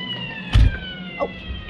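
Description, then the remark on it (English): A police siren wails steadily, its tones gliding slowly, with a dull thump partway through and a brief knock shortly after. No one speaks. “Oh, Simon, a police siren.”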